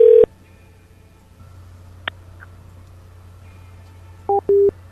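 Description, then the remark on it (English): Electronic telephone keypad tones: a brief beep at the start, then two quick dual-tone presses near the end, with a soft click in between over a low steady hum. No one speaks. “I gotta make my call come from a Walmart this time.”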